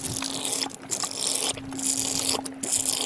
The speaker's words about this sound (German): Also was, das Schlürfen, was man hier im Hintergrund hört, sind unsere Pferde, die jetzt gerade aus so einem hohlen Baumstamm Wasser trinken.